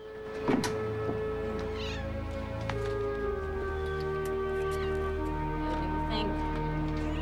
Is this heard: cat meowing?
yes